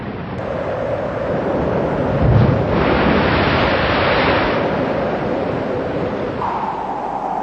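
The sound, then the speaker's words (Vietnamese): A thunderstorm: steady, dense rain hiss fills the whole stretch, swelling into a louder roaring wash midway with a brief low rumble like thunder, then easing back to a constant downpour. “Thương tình, Thạch Sanh cho hai mẹ con Lý Thông trở về làng, nhưng dọc đường hai mẹ con gian ác, gặp trận mưa giông.”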